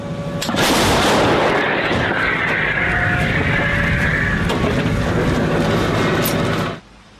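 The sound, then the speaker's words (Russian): A loud artillery volley from a 45-ton artillery system, the first volley after minutes of preparation, roars almost continuously for several seconds, its rumbling blasts blurring together with sharper cracks, then cuts off abruptly. No one speaks. “За лічені хвилини підготовки – перші залпи.”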